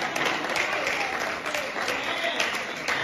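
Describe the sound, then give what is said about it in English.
An audience at a 20-year anniversary celebration breaks into steady applause for a man who has stood up, many hands clapping in a dense, continuous wash that stays loud and even for the full few seconds with no voices rising above it. “Clap for him.”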